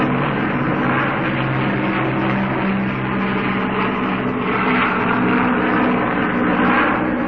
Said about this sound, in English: Sound that nobody will ever hear again except on record. The roar of a squadron of Lancaster bombers taking off from an aerodrome here in the heart of Britain. The aerodrome is a place called Langer, and here I am standing in it now